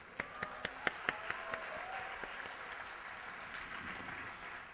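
An audience claps: a few sharp, separate claps at the start quickly blend into a steady, moderately loud wash of applause that carries on to the end.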